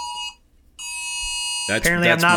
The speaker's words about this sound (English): Apparently, I'm not allowed to talk poorly about the Bucks. Otherwise, there's alarms going on around the Payne Insider household. Still going.